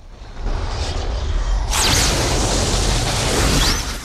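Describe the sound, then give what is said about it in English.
A low, steady rumble of storm clouds builds, then a sudden loud crack as a bolt of lightning from a fireball in the clouds strikes a temple tower, bursting into a roaring, crashing wash of noise that sustains for several seconds as the tower is destroyed. “A fireball forms in the clouds and a bolt of lightning strikes a temple tower, destroying it.”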